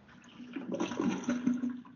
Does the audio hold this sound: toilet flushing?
yes